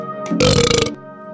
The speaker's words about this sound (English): I can hear that belching in the next room. Do you mind?